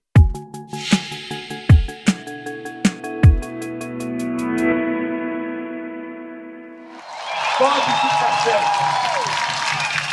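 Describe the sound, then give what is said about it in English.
A short musical sting of struck tones and sustained chords fades, then a loud crowd in Brazil cheers and roars continuously for the last few seconds as former president Lula da Silva steps out of jail. “The scene last night in Brazil, as the country's former president, Lula da Silva, stepped out of jail and into a cheering crowd.”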